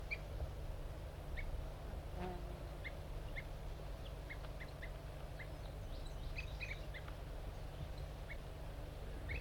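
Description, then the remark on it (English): Two captive birds, put together in a forced, aggressive encounter to lure in wild birds, fight furiously and give short, high, chirping calls in scattered bursts, some in quick pairs, over a steady low rumbling background. No one speaks. “I put 4-3 in with 5-3, and they're fighting furiously, hoping to lure in the wild birds.”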